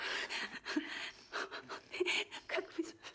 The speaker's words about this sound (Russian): Как вы смешно дышите.